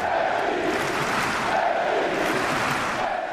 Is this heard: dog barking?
no